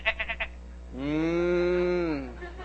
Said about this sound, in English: What then is this bleating of the sheep in my ears and the lowing of the oxen that I hear?